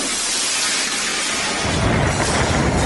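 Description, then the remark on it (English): Heavy rain and wind of a huge cyclone hitting India's eastern coast roar in a dense, steady wash of noise, with winds over 120 miles an hour and a deep rumbling gust swelling in about halfway through and staying loud to the end. No voices. “It's brought rain and winds of more than 120 miles an hour, causing widespread damage and flooding in low-lying areas.”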